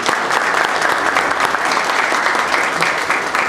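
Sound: audience applause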